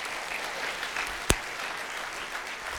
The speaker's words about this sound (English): So now you can give the Lord a clap offering. Hallelujah.